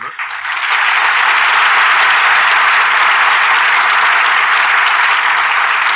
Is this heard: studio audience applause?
yes